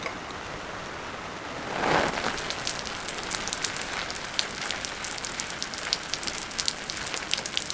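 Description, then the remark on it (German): Steady rain falls and patters on a hard surface, a dense hiss of countless drops with scattered sharper splashes, swelling briefly near the start, with no voices. “Regen, Regen, Regen. Wie lange soll das denn noch weitergehen?”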